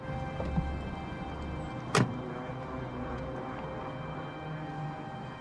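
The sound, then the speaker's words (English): A car's back door clicks open outside a hospital, then shuts with one solid thunk as someone gets in, over a steady low rumble of idling and outdoor ambience. “Outside the hospital, Vera opens the back door of her car for G to get in.”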